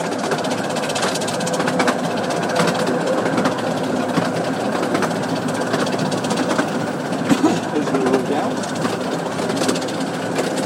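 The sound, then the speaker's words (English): A miniature steam train, about one-third the size of a normal one, rumbles steadily along the rails of the Romney, Hythe and Dymchurch Railway, wheels ticking out a regular clickety-clack over the track joints throughout, with a constant mechanical clatter underneath. “This is a steam train. It's a miniature railway.”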